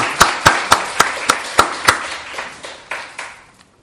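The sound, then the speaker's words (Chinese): An audience applauds God during a church service: roughly eleven sharp, evenly timed claps ring out over a softer wash of hand clapping, which thins and fades away after about three and a half seconds. “我哋俾掌声我哋嘅神啊！”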